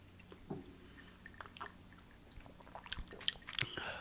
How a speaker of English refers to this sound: Sips.